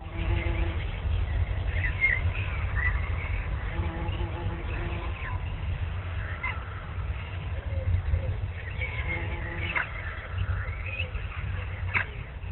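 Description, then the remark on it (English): Scattered bird chirps and short tweets come and go outdoors, fairly faint against a steady low rumbling background, with a few brighter calls standing out near the end. “I hear birds chirping. I hear what sounds like a fly.”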